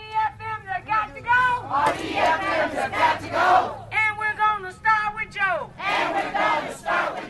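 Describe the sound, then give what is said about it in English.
A crowd of protesters calling for Harris to leave chants and shouts loudly in rhythmic bursts, many voices rising and falling together, with a low steady rumble underneath. “But protesters are calling for Harris to leave now.”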